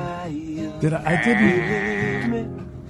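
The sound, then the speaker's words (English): A couple of goats bleat in a drawn-out, wavering cry lasting over a second, fairly loud, mixed with the warbling voice of a man singing to them and some background sound. “I like the goats are accompanying him.”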